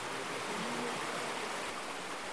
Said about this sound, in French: Tout le temps, quand on dort, on se régale de dormir avec, en fait, avec le son de la rivière. Tout l'été, on laisse la fenêtre ouverte. Ça nous berce et puis c'est comme un havre de paix.